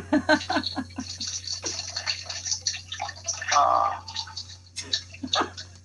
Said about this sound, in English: What was that? That was me pouring a little bit of water into my glass. Okay. That I heard.